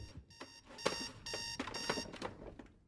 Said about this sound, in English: A digital clock changes from 5:59 to 6. In a darkened room, a hand reaches out from a coffin to turn off the alarm.